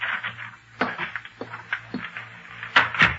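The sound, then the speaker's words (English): An unlocked door opens as someone comes in, with a series of sharp clicks and knocks from the latch and handle spread over a few seconds, above a faint low hum. No one speaks. “Oh, come on in, dear. The door's unlocked.”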